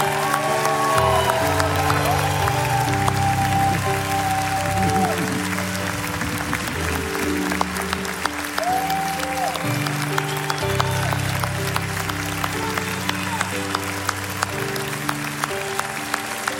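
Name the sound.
church audience applause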